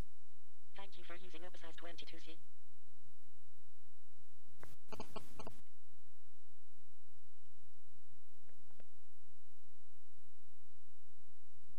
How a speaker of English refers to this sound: And it vibrates to tell us that the phone has actually turned off.